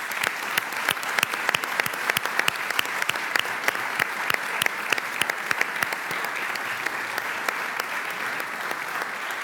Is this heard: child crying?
no